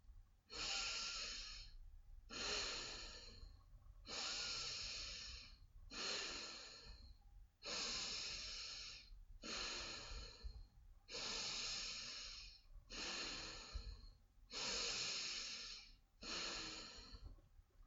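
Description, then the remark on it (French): Slow, steady breathing through the nose during a guided relaxation and visualization exercise: about ten airy breaths in an even rhythm, each a soft rushing hiss with brief pauses between, heard alone without any talking. “Continuez à respirer, visualisez et nettoyez la gorge, le cou, la nuque. Continuez à bien respirer avec votre nez.”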